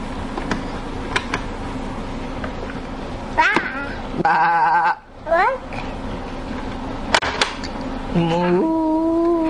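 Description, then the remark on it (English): A sheep bleats once with a wavering, quavering tone, set against a busy background of short squeaky calls and a steady, higher-pitched tone near the end. “Sheep.”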